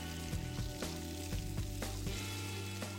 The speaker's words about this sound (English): That's bacon sizzling.